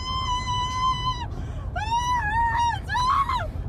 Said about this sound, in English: But the interesting thing about this is that the woman, while she's screaming, sounds a lot like an ambulance. She sure does.